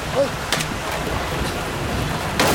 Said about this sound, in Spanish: ¿Qué es ese ruido? Es el río.